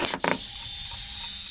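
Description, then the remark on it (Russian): Someone blows hard by mouth into a balloon to inflate it, a continuous breathy rush of air after a brief puff at the start, with no talking. “Шарик вот, лежит на столе. Надо его надуть и завязать яркой ленточкой.”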